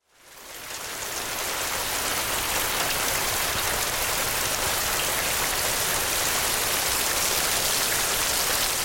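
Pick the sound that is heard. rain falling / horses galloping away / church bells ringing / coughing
rain falling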